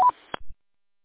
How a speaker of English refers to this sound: Hey, get rid of the Roger beeper.